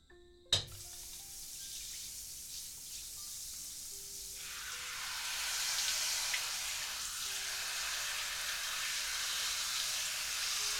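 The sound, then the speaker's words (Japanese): A shower turns on with a sharp click, then a steady spray of water hisses continuously and grows fuller and louder, a broad rush with no voices. “ずはシャワーから行きます。”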